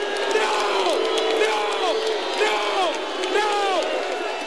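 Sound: crowd booing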